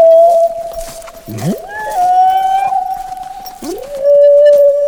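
Whale song: long, sustained tonal moans held steady, broken twice by deep swoops that glide upward into the next note, loud and continuous with no talking.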